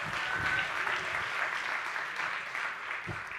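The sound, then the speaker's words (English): Sustained applause from a church audience welcoming the pastor, many hands clapping in a dense, steady wash that stays fairly even throughout, with no voices standing out. “I appreciate your hand clap, but I never want to rob the glory of the Lord.”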